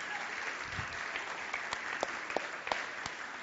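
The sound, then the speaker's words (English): An audience claps steadily for volunteers, a dense wash of many hands with a few sharper, louder claps standing out near the end, and no voices heard. “Can we clap for these amazing volunteers?”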